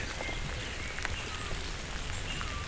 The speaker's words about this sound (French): Et ces gouttelettes de pluie.